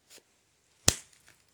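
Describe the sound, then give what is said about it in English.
A single sharp, loud slap as a person slaps their own face, a crisp fleshy smack that fades quickly, with a faint breathy rustle just before it and no talking. “Slap yourself in the face if you think you've earned it.”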